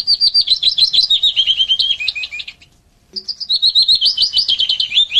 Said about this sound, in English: That's a willow warbler. Oh, so is that the one? That's that the one that looks like a chiff-chaff, right, but right, sounds right. Nothing like a chiff-chaff. So that descending call, willow warbler.